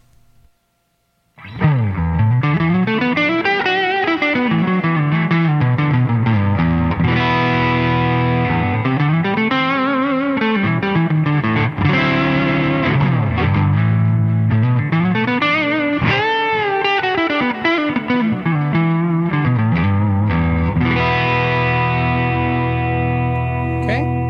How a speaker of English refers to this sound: Let's go ahead and switch and do some overdrive. So, just going to use my OD-11 overdrive that I like so much. I'm going to start with a neck pickup and give you some neck distortion sounds.